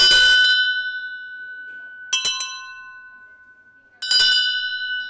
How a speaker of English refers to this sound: Again, the only difference in the sound comes from the materials. If I ring this, you'll hear the sound. And then we'll compare that to a brass tuning fork. I mean, brass bell, sorry. We'll compare that to a brass bell.